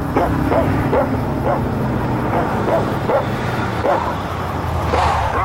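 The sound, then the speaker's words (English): A dog sitting in the back of a truck stopped on a road barks again and again in short, evenly spaced bursts over a steady low engine rumble. “The dog, sitting in the back, stares up at the sky.”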